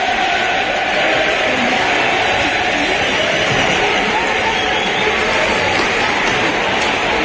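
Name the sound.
stadium crowd cheering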